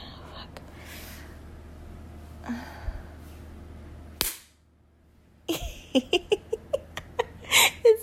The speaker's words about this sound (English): I have thick thighs, which is why it's so easy to hold this toy in place with my thighs. Why it makes such a satisfying noise when I slap them.